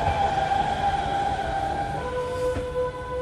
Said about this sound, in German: Langsam schafft sich der Zug aus dem Tunnel und quält sich durch die enge Kurve zur Station.